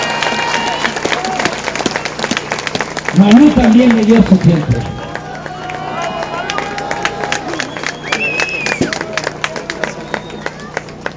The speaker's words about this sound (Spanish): Él iba a hablar y me cedió su tiempo. Doble aplauso para Carlos.